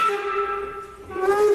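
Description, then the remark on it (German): A steam locomotive, about to be driven by the speaker, hisses steadily, a continuous breathy rush carrying a sustained mid-pitched tonal whine that shifts slightly near the end, with no voices. “Ich darf jetzt selbst Dampflok fahren.”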